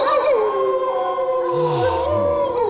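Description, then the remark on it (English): Several wolves howl together in long, wavering, overlapping cries, one sliding low and rising again, a sustained chorus heard with no talking over it. “You hear them, Mr. Harker? The wolves?”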